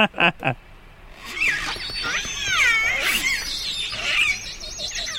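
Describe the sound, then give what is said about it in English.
An orca gives a family-specific biphonic call, one animal making a low and a high frequency at the same time: a wavering, squealing high tone layered over a lower tone, rising and bending for several seconds after a few short opening bursts. “Call meaning one animal is making a low frequency and a high frequency call at the same time.”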